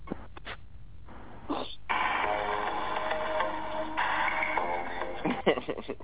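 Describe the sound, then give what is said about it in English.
A phone ringtone plays a song, tinny and thin, with a steady melodic line that swells in after a brief pause and carries on at moderate loudness with no talking over it. “Who got that as a damn ringtone?”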